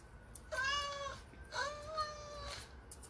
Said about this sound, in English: You made the cat sad.